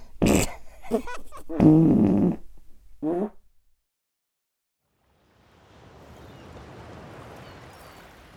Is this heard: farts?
yes